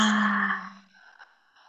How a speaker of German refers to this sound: Mit der nächsten Ausatmung schließt gern mit mir die Augen. Nehmt einen tiefen Atemzug durch die Nase ein mit mir. Und alles durch den geöffneten Mund aus.